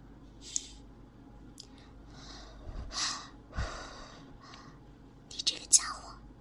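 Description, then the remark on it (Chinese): Close, breathy exhalations and gasps from someone hiding in a small cabinet come in uneven bursts, soft but intimate, as the person breathes heavily right beside the listener's ear, with a few sharp sniffs near the end. “喂，别喘气了，传到我耳朵旁边，很痒的，痒死我。”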